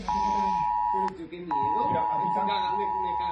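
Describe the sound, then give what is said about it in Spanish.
A loud, steady electronic emergency alert tone blares from a mobile phone in Valencia, cutting out briefly around a second in and then resuming, with a voice talking faintly underneath. “La alerta llegaba a los teléfonos de los valencianos exactamente a las 8:11.”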